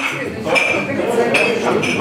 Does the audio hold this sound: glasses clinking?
yes